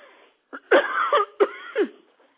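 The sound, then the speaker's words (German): A woman coughs in a quick series of harsh bursts, two louder hacking coughs standing out, with no talking over them. “Entschuldigt den Kanal, die Energie ist sehr hoch, dann muss sie immer husten.”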